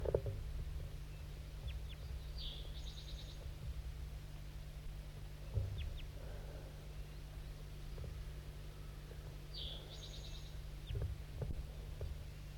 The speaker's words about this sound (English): There's another crossbill here, I didn't even know it.